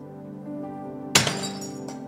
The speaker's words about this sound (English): And what begins to happen in our lives, let me back up because I don't want glass flying everywhere.